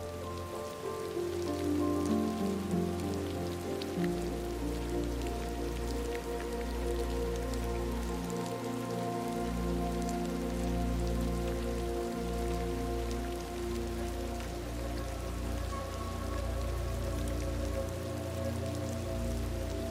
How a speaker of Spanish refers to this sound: Y te permites relajarte con el hipnótico y agradable sonido de la lluvia.